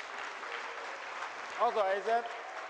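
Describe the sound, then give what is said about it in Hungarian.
A steady patter of applause fills the whole stretch at moderate volume after a classroom demonstration about induction, with a voice briefly speaking over the clapping toward the end. “A tapsot mindenképpen megérdemlítem.”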